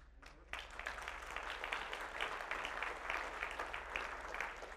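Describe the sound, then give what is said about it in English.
An audience at Temple Baptist Church breaks into applause after a brief pause, many hands clapping in a dense, steady wash of sound that holds at an even level to the end, with no voices heard. “I always throw that in the hope of getting an applause.”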